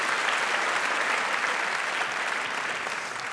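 Steady audience applause, a dense wash of many hands clapping at an even, loud level throughout, tapering slightly at the end, with no voices standing out.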